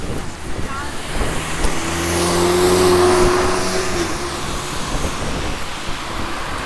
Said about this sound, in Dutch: Ik praat bewust terwijl er auto's vlak langs rijden.